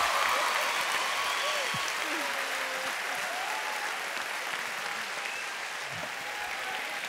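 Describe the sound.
Sustained applause from an audience, a dense steady clatter of many hands clapping at an even loudness throughout, with faint voices and a few cheers mixed in.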